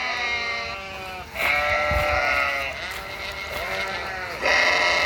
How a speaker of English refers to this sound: There's even a wandering flock of sheep.